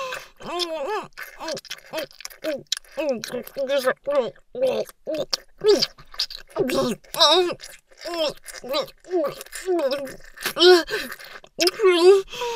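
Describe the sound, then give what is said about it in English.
Rapid, rhythmic, breathy erotic moans and pants from a voice, short voiced bursts repeating steadily throughout with occasional louder, higher cries. “Keep making those erotic noises for me. Your panting's only spraying me on.”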